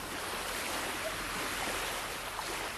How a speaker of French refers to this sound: C'est la joie, le soleil, la plage, le repos, la mer, l'océan. Mais aussi et surtout les vagues.